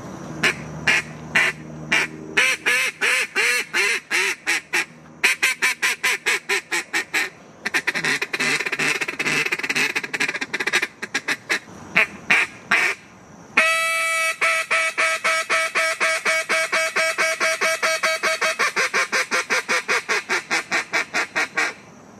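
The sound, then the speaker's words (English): Devlin Hodges, Steelers quarterback and world champion duck caller, blows a duck call as used when hunting ducks, in rapid, rhythmic bursts of loud quacks and raspy squawks, continuous for over twenty seconds with brief pauses, shifting into a fast, higher-pitched feeding chatter near the end. “So that's a world champion duck call right there.”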